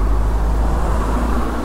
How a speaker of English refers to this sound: If you can hear the water there